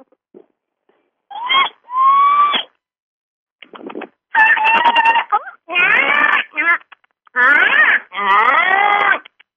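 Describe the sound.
A person imitates a dolphin with a run of high, squeaky whistles and chirps, delivered in several loud bursts separated by brief pauses, with no other talking.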